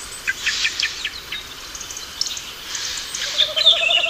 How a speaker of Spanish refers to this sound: Y estamos unos meses más tarde, al caer la tarde, la hora del cambio de guardia, en que los últimos petirrojos del día dan paso a los primeros cárabos de la noche. Este que ulula es el cárabo, el mirlo, pero es el crepúsculo.